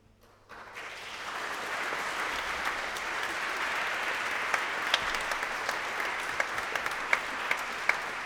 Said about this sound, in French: On pourrait applaudir un peu les musiciens, non, quand même.